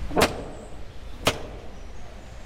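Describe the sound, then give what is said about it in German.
Two heavy, resonant knocks on the large gate of the Castello Ruspoli in Vignanello, Tuscia, Italy, spaced about a second apart, ringing out clearly over a steady low background hum with no voices. “Auch hier klopfen die Besucher oft an das große Tor.”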